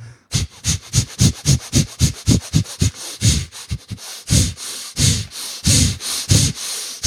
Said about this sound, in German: 10 Minuten, atmen, volle Kanne. Also es ist atmen, wie du noch nie geatmet hast. Mach vor.